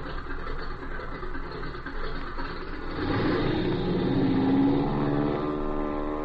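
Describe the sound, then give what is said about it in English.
A small aircraft engine idles with a steady rumble, then revs up around midway, growing louder and higher-pitched as if preparing for takeoff to fly back to Springfield, with no voices. “we're climbing into that aircat and getting back to Springfield so that I can do some checking up.”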